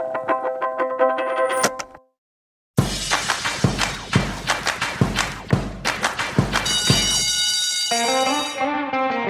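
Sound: bell ringing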